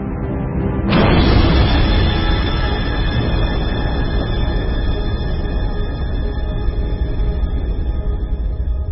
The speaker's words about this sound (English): The two were on a collision course. Eventually, they crashed together. It was the biggest bang the solar system had ever seen.